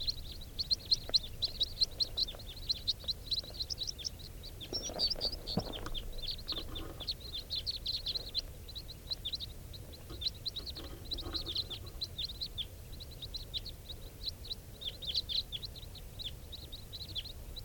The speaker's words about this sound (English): And I hear a big flock of type 4s. Stop. Flock of birds flying over.